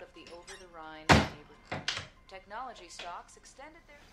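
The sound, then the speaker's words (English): A cabinet door bangs shut with one solid, loud thunk as a candy tin, its lid slapped back on, is shoved back into the cabinet, followed shortly by a softer knock, while a voice keeps talking over it. “She slaps the lid back on the tin and shoves it back into the cabinet.”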